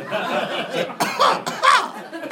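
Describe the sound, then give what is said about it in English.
A voice mimics coughing, with a few rough, breathy bursts in quick succession, fairly loud, and no talking alongside. “I believe when God smells that kind of prayer, I believe he coughs.”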